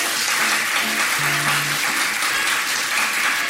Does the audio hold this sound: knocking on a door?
no